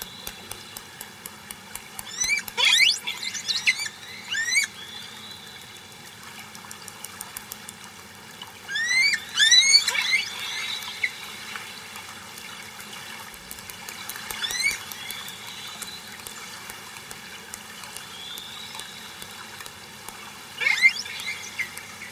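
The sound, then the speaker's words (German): Hydrophone recording made in Norway of long-finned pilot whale calls: bursts of high, sweeping whistles and squeals, some rising and falling, with clicks, recurring every few seconds over a steady low hiss. “Aber das waren keine Orcas, sondern nahe Verwandten. Das waren die Langflossengrindwale.”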